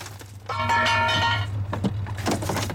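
A car window smashes with a sudden crash, a bright ringing shimmer trailing for about a second, then a few scattered tinkling bursts of falling glass over a steady low hum.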